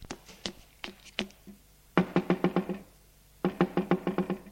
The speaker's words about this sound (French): qui ne le voit pas venir prendre son petit déjeuner, va frapper à sa porte.